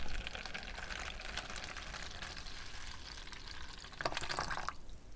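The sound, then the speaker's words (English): Hot water pours steadily into a cup of instant ramen, a continuous splashing hiss lasting several seconds, swelling briefly louder just before it stops. “He poured the hot water into the cup ramen.”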